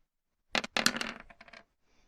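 A brief clatter of dice tumbling across a tabletop during a tabletop role-playing game, several quick hard clicks bunched together over about a second before settling into silence.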